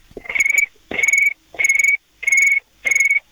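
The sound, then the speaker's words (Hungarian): A person imitates a cricket's chirping over the phone with five evenly spaced, shrill trilling bursts, each about half a second long, loud, with no talking. “Most közelebb a telefont a tücsökhöz. Menj oda a tücsökhöz.”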